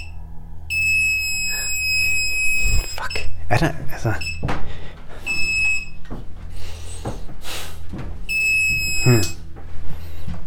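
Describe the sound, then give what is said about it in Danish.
A hidden-microphone detector, held right up against a wall, gives off shrill electronic tones in three sustained bursts separated by short gaps, fairly loud, while people talk and handle things. “Der skal komme en konstant tone eller en hurtig, meget hurtig bip-lyd.”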